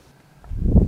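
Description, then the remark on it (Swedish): A soft, low whoosh of air from the mask of a breathing machine on loan from the healthcare service, worn with the mouth closed, building gently in the second half of a brief moment, with no voices. “Ett litet behagligt sus.”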